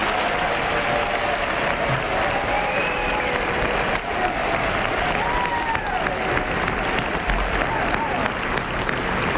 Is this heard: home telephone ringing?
no